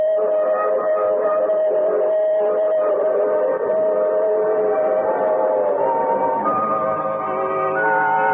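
A train sounds a loud, sustained whistle, its layered tones holding steady for several seconds over the rumble of the moving train, with the pitch shifting slightly toward the end.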